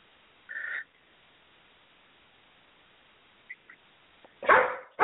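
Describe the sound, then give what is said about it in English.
A dog in the room gives a brief high whine, then after a quiet pause lets out a louder, fuller bark or two near the end, with no one talking. “I had to let my dog outside. He is in the room.”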